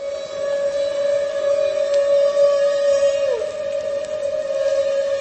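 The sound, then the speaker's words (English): A sustained, steady tonal feeding call from a humpback whale during bubble-net feeding on herring, a loud drawn-out note with faint harmonics above it, holding for several seconds with a brief downward bend partway through. “And at the same time, Omani says, maybe the same whale that's blowing the net, or maybe another whale in the group, we're not sure, makes these feeding calls.”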